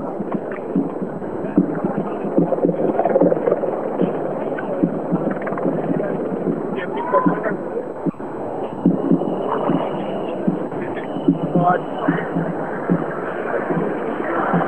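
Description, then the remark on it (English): A steady, dense roar of crowd noise, muffled and thin as if heard through a telephone line, with blurred voices swelling and surging throughout without a break. “No, I said at this end, we're getting surges of sound from the crowd.”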